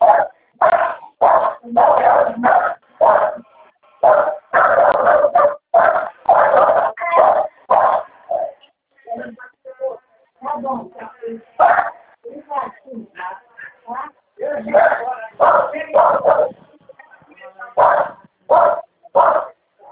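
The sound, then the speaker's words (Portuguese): A dog barks loudly in rapid, nearly continuous bursts, easing briefly into softer yips and whines midway before the excited barking picks up again. “Meu Deus do céu, cachorro só vê. Tô ouvindo, tô fazendo a festa aí.”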